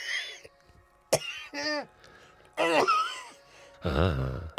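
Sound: coughing fit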